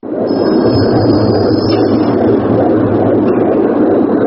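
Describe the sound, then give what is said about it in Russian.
Layered recording of the heartbeats of several dozen people, part of Christian Boltanski's installation at the Monumenta exhibition in the Grand Palais, Paris, merging into one dense, steady mechanical-sounding drone, loud and unbroken, with a faint high whine running above it and no voices. “Этот ритмичный гул похож на шум заводских цехов, но на самом деле это запись биения нескольких десятков человеческих сердец.”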